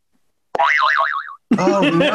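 A zany cartoon whistle wobbles rapidly up and down in pitch for under a second, loud and bright, then cuts off as voices start talking over a busy, noisy moment.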